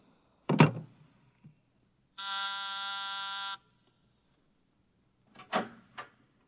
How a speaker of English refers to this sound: You buzzed, Mr. Burkhart?